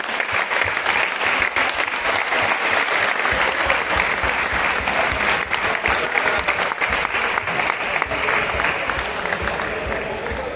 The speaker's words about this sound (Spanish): por lo tanto también un fuerte aplauso para vosotros porque lo habéis hecho genial.